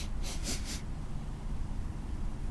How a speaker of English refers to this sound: Oh, well, I just had one of those burrito bueno, the sweet potato and cactus burrito. I get them at Whole Foods. I think it's very spicy. I think that's why I'm sniffling and coughing.